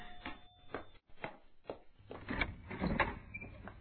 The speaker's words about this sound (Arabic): يا ماما حاضر يا ماما، سوف أذهب وافتح الباب.